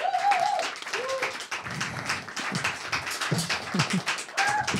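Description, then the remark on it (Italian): A crowd at a live comedy evening applauds a comedian being called on, dense clapping with a few whoops and cheers rising over it; the applause stays loud and continuous throughout. “io vi chiedo un grandissimo applauso per Gabriele Rota”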